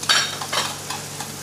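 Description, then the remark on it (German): Pieces of veal sizzle steadily in a hot pan with diagonally cut asparagus as they are briefly browned, with several louder hissing, scraping bursts as they are stirred and turned. No one speaks. “Rösten das kurz an, nicht zu lange, es darf auf keinen Fall das Wasser auslaufen.”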